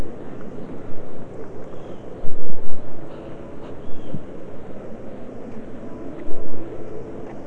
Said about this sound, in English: Raining out there.